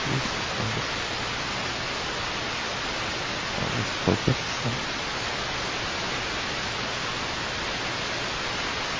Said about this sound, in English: So here's a river passing through, and we stood there for some time until another jeep, this is the jeep which we refer to, another jeep, drove through it.